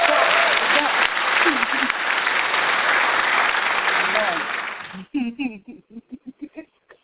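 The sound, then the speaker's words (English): Dense, steady applause from a crowd fills about five seconds, then cuts off abruptly, followed by a few short bursts of voice-like sounds; the applause closes a guest interview on the show Fantasy Limelight. “It's official. You done got clapped out.”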